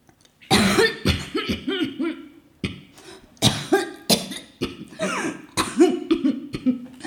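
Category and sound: human body sound, coughing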